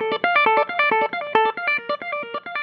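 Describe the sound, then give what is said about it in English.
A distorted electric guitar plays a fast riff of short, punchy notes in a steady rhythm, bright and gritty, with no voices over it. “And she loves playing the electric guitar.”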